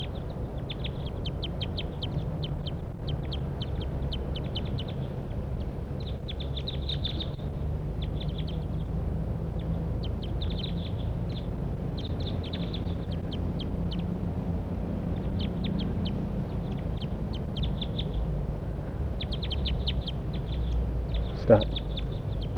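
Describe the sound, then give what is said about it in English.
Wild birds call again and again, a steady stream of short, high chirps and twitters in bursts over a low, continuous rumble, with one brief sharp sound near the end. “Start recording the wild birds calling.”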